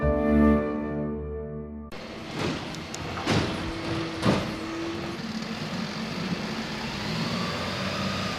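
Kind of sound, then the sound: vehicle, garbage truck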